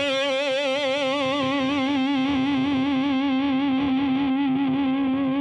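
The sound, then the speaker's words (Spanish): A sustained electric guitar note held with steady, wavering vibrato, played dry with no delay or reverb, ringing loud and clear for several seconds with no voices. “Hacer los riffs o los solos, pero crudo, o sea, que no tenga delay, ¿no? No tiene ahorita reverb.”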